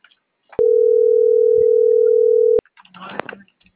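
A loud, steady telephone busy tone hums unbroken for about two seconds as a number is dialed and the call does not go through, then cuts off into a brief clatter of handling and rustling noises. No one speaks.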